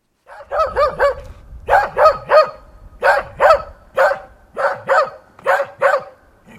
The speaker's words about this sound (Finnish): Murrekoira vaikuttaa tässä vähän aggressiiviselta, mutta mitä se tarkkaan ottaen yrittää kertoa meille haukunnallaan? Emme taida tietää sitä.